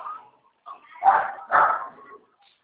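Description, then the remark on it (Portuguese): A mixed-breed dog barks twice in quick succession, fairly loud, after a softer muffled sound at the start, then quiet. “Só saber de rua, cachorro.”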